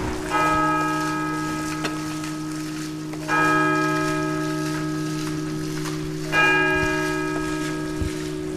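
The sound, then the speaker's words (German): Three resonant strikes of a church bell striking the hour in Rothenburg an der Fulda, Germany, ringing out at steady intervals about three seconds apart, each with a long humming decay that overlaps the next. Faint rain-like hiss sits underneath. “Die Glocke hat geschlagen und jetzt starten wir mit dem Interview.”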